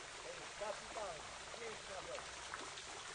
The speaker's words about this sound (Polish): W alejce zmysłu dotyku znajduje się skalny portal, z którego spływa woda.